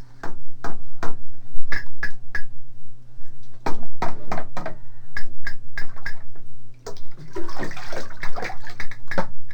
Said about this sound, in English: Can I bang this like a fence does bang? Like a what? Like a book bang.